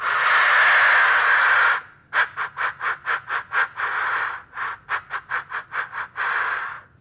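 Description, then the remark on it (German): A Birkanlocker bird call lure being tried out, blown with a long breathy hiss, then bursts of quick rhythmic puffs broken by sustained rushing notes, with no voices. “Und jetzt probiere ich mal diesen Birkanlocker aus.”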